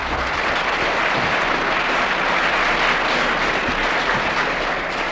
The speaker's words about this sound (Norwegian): Jeg gir gjerne min taletid slik at statsministeren kan innkassere den applaus hun i denne sak har krav på.